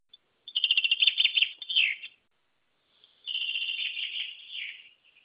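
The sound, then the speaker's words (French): A small bird sings two bright, high-pitched trilling phrases, each a rapid run of sweet notes lasting about a second and a half, separated by a brief pause, with no one talking. “Voici son chant.”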